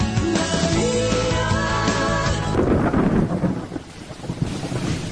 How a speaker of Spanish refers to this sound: No, Tecalas no. Te cala porque llueve.